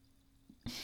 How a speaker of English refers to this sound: Plus, if you say yes, I get to do the pouring thing again, and that makes me happy. Come on. You want to listen to the pouring noise again, too.